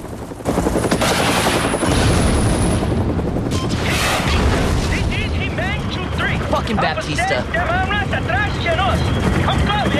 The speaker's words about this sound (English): A helicopter flies in and fires a missile at a building.